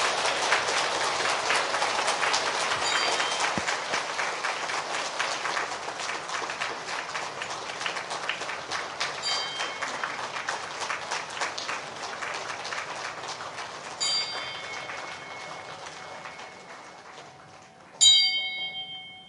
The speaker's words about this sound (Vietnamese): Ngưỡng mong Hòa Thượng quan hỷ chứng minh, toàn thể đạo tràng dương cao một tràng pháo tay để cung đón Hòa Thượng Quang Lâm.